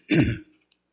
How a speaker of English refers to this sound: I clear my throat.